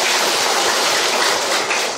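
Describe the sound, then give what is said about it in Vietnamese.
An audience at a Buddhist dharma talk applauding, a dense and steady wash of many hands clapping at once with no break, loud and uniform for the whole stretch, and no voices over it. “À, rồi xin tròn vàng pháo tay.”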